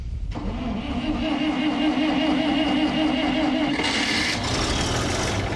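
A heavy farm tractor, parked since before Christmas on a cotton farm just outside Lubbock, Texas, cranks and catches, then settles into a loud, steady, chugging idle, its note shifting slightly near the end.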